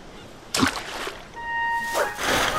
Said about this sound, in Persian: اما یک روز او جال ماهیگیری خود را در آب انداخته و متعجب شد.